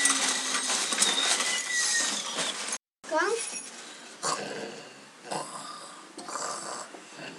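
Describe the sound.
A human voice imitates a dog as a sound effect for a radio play, with rough, snorting growls and a quick run of high yelping whimpers, fairly loud over a noisy, hissy background.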